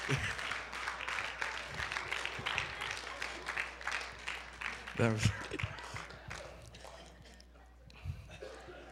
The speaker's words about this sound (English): Is somebody going to give Him a hand clap of praise tonight?